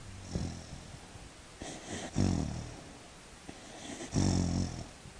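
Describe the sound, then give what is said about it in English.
A dog, Bandit, makes low, rumbling growls and muffled huffs in two main bursts, breathy and snore-like, fairly quiet, with no talking, as she growls in her sleep while dreaming. “She's like growling at other dogs in her sleep.”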